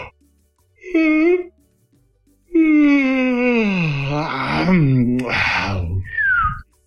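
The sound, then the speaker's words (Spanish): A voice imitates a grandfather's long, drawn-out yawn that slides downward in pitch, ending in a brief falling whistle. A short vocal sound precedes it; otherwise the sounds stand alone, fairly loud. “Mi abuelo, me acuerdo que cuando yo era chico y él bostezaba, terminaba con un silbido los bostezos.”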